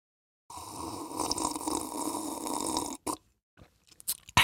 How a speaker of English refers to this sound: Let me take a sip. Time for a sip break.